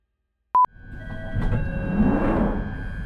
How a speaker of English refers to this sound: This station is Tooting Beck. This is a Northern Line train via Bank terminating at Hibernic.